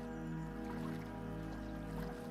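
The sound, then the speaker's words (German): A boat moves steadily through calm lake water, a continuous low droning hum with soft splashing and lapping, with no voices. “Du fährst ins Wasser.”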